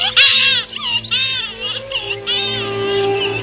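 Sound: baby crying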